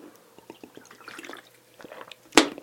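Someone takes a swig of water: soft wet sips and small gulping clicks, then a sharp louder gasp or bottle knock near the end. Nobody speaks.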